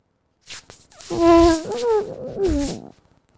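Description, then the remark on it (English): A long, reedy fart buzzes for about two seconds, its pitch wobbling up and down before it breaks into a short, bubbling gurgle at the end. No one speaks. “Do you hear that at the end? It's like your bowels are boiling.”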